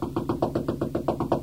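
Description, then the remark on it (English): Rapid, steady knocking on a door, about nine firm raps in quick succession, fairly loud with no voices. “Knock louder. She's in there somewhere.”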